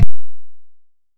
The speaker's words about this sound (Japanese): なんかね、湿ってきたからね。咳払いしたいから、ちょっと一回。